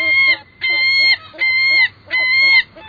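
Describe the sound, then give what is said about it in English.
A series of loud, nasal gull calls repeats in quick bursts, about five sharp yelping notes in three seconds, clear with no talking. “Ah, the sweet music of gulls.”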